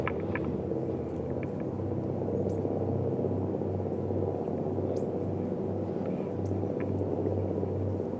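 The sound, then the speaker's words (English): A steady, loud low rumble with a pulsing, fluttering beat of a helicopter's rotor during a flight to the top of a mountain, running continuously with faint higher clicks. “Maybe you could just kind of dig the fluttering sound of the chopper.”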